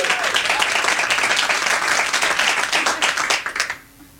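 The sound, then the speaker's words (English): An audience at a live show in Edinburgh applauds steadily for about three and a half seconds to help set recording levels, many hands clapping in a dense, loud patter that then quickly tapers off into near silence. “Just need a little bit more applause for the levels, apparently, on the podcast.”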